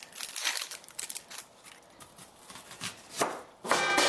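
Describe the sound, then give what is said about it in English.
A knife chops an onion into a 1/4-inch dice on a board in a quick, uneven series of crisp, crunchy cuts, with no talking and a louder burst of chopping near the end. “Actually, what I'd like you to do now is chop this onion.”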